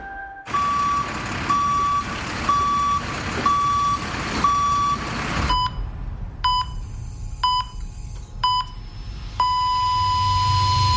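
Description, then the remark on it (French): On a construction site, a vehicle backs up, its reversing alarm sounding a steady run of loud, evenly spaced beeps over a heavy engine rumble, followed by a few sharper, irregular tones. “Sur un chantier, chaque manœuvre de recul d'un véhicule comporte des risques.”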